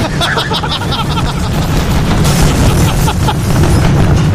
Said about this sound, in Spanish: Y los fuegos artificiales también.